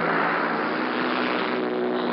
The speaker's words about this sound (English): The sky now is full of the noise of these paratroop planes as they circle the aerodrome before they take their course. But just as they're circling in the air, so the others that are waiting to go are circling the track of the aerodrome,